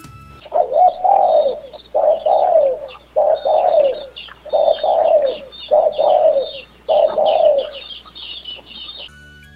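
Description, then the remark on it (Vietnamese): A decoy dove at the top of a tree coos six times in a steady rhythm, each low, throaty phrase rising and falling over about a second, loud and clear with no voices. “Trên ngọn cây, cua mồi gáy lên, thúc giục.”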